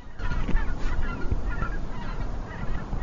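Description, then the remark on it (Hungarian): A flock of white-fronted geese flying in V formation calls continuously, many overlapping high yelping honks layered into a dense, busy chorus. “És jól is hallatszik, hogy azt mondják, hogy lilik.”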